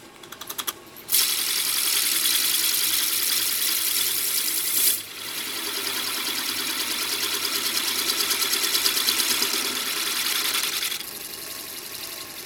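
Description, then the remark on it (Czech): A lathe turns a stem on a mandrel for metal spinning, so it can be clamped in a universal chuck; it runs steadily with a dense, hissing metallic whir and a fast rhythmic chatter, pausing briefly near the start and again around five seconds before starting up again; no one speaks. “No a abych ho dokázal pevně upnout a nevyletělo to při tom kovotlačení, tak na něm napřed osoustružím takovou stopku, která se zasune hluboko do té univerzální hlavičky a pevně se připevní a teprve potom budu obrábět dál.”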